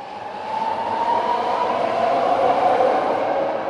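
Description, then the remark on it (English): A BART rapid transit train rumbles steadily along the platform at Fruitvale BART station in Oakland, a broad, even roar with a bright metallic hiss riding on top, fairly loud, with no voices. “It was here, at the Fruitvale BART station where the incident happened.”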